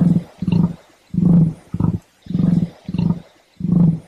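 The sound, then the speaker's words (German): A rhea, a South American running bird related to emus and ostriches, calls in the Fraunhofer Straße station of the Munich U-Bahn with a series of about seven deep, rumbling grunts in quick succession, low-pitched and fairly loud, rising and fading like booming snorts. “Das, liebe Freunde, war, auch wenn es ein bisschen so klingt, nicht etwa ein Wildschwein, sondern ein Nandu, ein südamerikanischer Laufvogel, verwandt mit den vielleicht bekannteren Emus und Straußenvögeln.”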